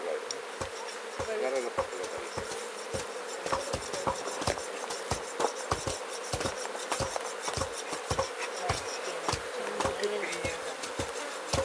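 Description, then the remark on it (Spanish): A dense, steady swarm of bees hums continuously and fairly loudly, with frequent sharp clicks and taps scattered throughout as insects bump around. No one speaks. “Entonces, ese es el trabajo que hacen las abejas.”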